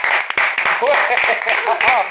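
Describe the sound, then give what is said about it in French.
A small group applauds itself at the close of a session, clapping steadily in a dense, continuous patter, with voices whooping and cheering over the applause throughout. “J'ai envie qu'on s'applaudisse quand même.”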